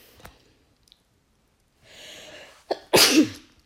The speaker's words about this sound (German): Musste niesen.